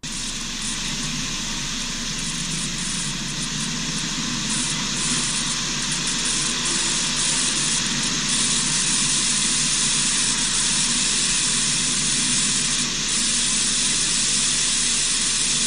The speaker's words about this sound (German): diese Aufnahme ist seltsam. Denn von 33 Aufnahmen ist dies die einzige, die durchgehend diesen seltsamen elektrischen Klang hat. Das geschah zwischen 2 und 3 Uhr morgens.